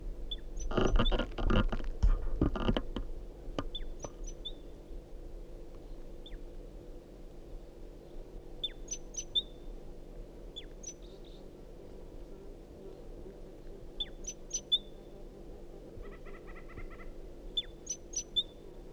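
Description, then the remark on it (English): A wild bird calls with short, high chirps repeated at irregular intervals against a quiet outdoor background, after a brief burst of rustling and tapping near the start. “Start calling the same bird.”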